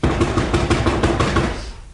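knocking on a door

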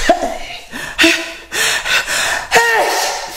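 sneeze

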